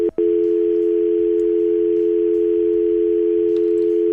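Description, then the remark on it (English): A steady, loud telephone dial tone hums continuously after a brief click at the start, after a caller to a phone-in show accidentally hung up by pressing their cheek against the phone; no voices present. “You're pressing your cheek too close to the phone to make it closer to Bucci, and you hung up on yourself.”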